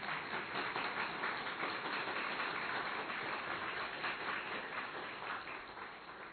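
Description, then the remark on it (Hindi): An audience at an assembly breaks into sustained applause, a dense, steady wash of many hands clapping for about six seconds, easing off slightly at the end, with no one speaking over it. “करोड़ों आत्माओं को अनदेखा किया और आप पर नजर गड़ गई उसकी, कितने भाग्यशाली है सोचो तो सही, तालियां तो बजाओ भाई।”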